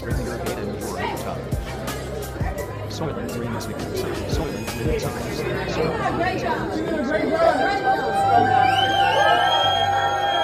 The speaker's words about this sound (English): Well, the people are applauding and cheering, so I guess they got tired of this black bitch's bullshit.